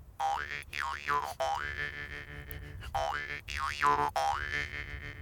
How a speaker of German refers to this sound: Kennt ihr das Instrument? Ne? Das ist ein Brummeisen, eine Maultrommel. Maultrommel.